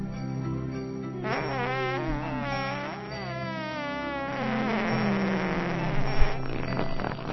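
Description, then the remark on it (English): The carol Silent Night performed live as a slow, wavering melody played entirely with buzzy, sputtering fart noises, each sustained note wobbling in pitch, carrying on steadily and fairly loud for several seconds with no talking. “where's the silent night of farts for Christmas, Hanukkah, Kwanzaa?”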